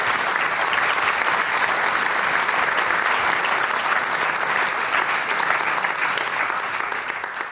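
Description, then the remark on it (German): Sustained applause from an audience for a trio of teenage musicians on a big stage, recorded for radio, a dense, steady wash of many hands clapping at full volume, holding evenly for several seconds before starting to fade at the very end. “Ja, zum ersten Mal ein Applaus.”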